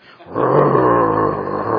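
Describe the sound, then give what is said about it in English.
A person makes a low, rumbling growl like an angry dog, starting after a brief pause and holding steady and loud for well over a second. “So that when somebody starts up on a bad subject around your children and everything else, they might hear a growl.”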